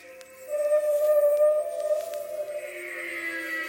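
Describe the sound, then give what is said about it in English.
An eerie wash of overlapping tonal whistles and squeals from 17 layered tracks of dolphin sounds, used as a sound effect for telepathic conversation; sustained and steady with faint clicks, forming a dense, otherworldly texture with no voices. “They had 17 tracks of dolphin sounds that they put layered on top of each other oh, into wow.”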